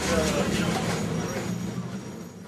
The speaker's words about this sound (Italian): Per questo qualche milanese in vacanza a Melbourne avrà provato un pizzico di smarrimento salendo a bordo di un tram che invece di fermarsi in Piazza della Scala o all'Arco della Pace si è fermato accanto all'Acquario o anche al Princess Theatre.